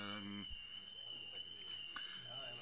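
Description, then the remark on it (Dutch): A burglar alarm sounds a steady, piercing high-pitched tone that never lets up while people talk over it. “Dit is niet het brandalarm, dit is het inbraakalarm.”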